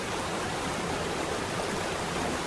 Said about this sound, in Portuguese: Parque Nacional da Chapada dos Veadeiros é reconhecido como Patrimônio Natural Mundial pela Unesco. Muralha, franjas, bujão e parafuso são os nomes das formidáveis quedas das cataratas do Rio dos Couros.